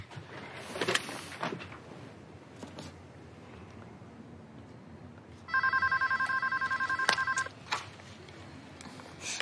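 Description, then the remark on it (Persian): A telephone rings in a steady burst of rapid trilling pulses lasting about two seconds, clear, preceded by some faint clatter and handling noises with no talking. “با یه تلفن دیگه زنگ بزن که منم بتونم گوش بدم و بهت بگم چیا بگی.”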